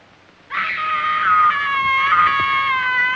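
A child shrieks in a tantrum: a loud, high-pitched scream that bursts in suddenly and holds for nearly three seconds, its pitch wavering slightly without a break.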